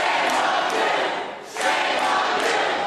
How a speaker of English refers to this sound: A familiar scene took place in Ohio last night. Following passage of a controversial anti-union bill, crowds jeered and yelled, "Shame on you," to lawmakers after they voted to send SB 5 to Governor John Kasich for signature.